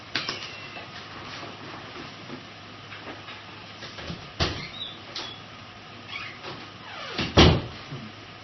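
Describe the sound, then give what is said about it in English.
An office door being opened to let a cat out: a few soft clicks and bumps, then a louder wooden clunk and rattle near the end, over a faint steady hiss with no one talking. “I had a cat pestering me to get out of this office. And she was not going to stop until I let her out.”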